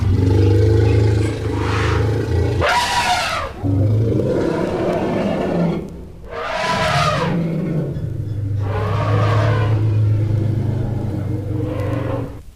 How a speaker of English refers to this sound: And wild elephants.